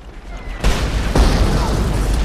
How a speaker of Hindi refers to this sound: फजूल लोगे खामा खामे गोलियां चला रहे हैं।